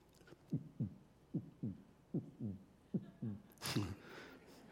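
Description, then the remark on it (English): A voice imitates a heartbeat: four steady lub-dub pairs of low, soft thumps in a regular rhythm, the last pair blurred by a brief breathy burst. “Anyway, showing what the Father is like was Jesus' heartbeat. That was his heartbeat.”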